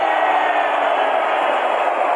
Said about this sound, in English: Oh, the capacity crowd at MetLife Stadium.